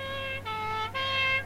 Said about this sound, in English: Listen, something's coming. I can hear a siren.